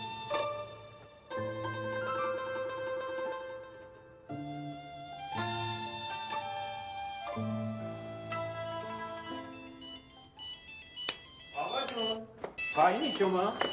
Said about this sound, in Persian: موبایلتون داره زنگ میخوره.